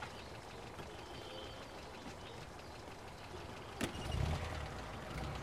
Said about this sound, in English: A gray truck drives up. A gray-haired man is behind the wheel.